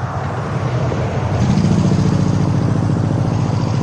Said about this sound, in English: So that's the idling motorcycle.